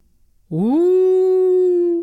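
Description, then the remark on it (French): A single wolf howl at night swells upward in pitch, then holds a steady, sustained tone for about a second and a half before cutting off. It's loud, with no other sounds around it. “Une nuit, elle entendit le houlement du loup.”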